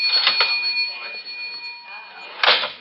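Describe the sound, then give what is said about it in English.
A cash register being opened: a couple of sharp mechanical clacks, a sustained ringing bell tone, and a final louder clatter as the drawer slides out, clear. “I got in the cash register.”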